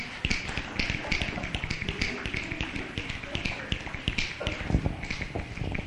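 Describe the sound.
An audience taps many fingers at once to imitate rain, making a dense, continuous patter like falling rain, steady and fairly loud throughout with bursts of sharper clicks and no talking.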